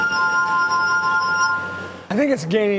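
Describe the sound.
A glass harp played by a professional glass harp performer sustains a shimmering, ringing chord of pure tones for about two seconds before a person begins speaking over the fading resonance.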